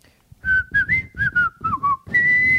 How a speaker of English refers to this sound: Let's hear your best whistle. Okay.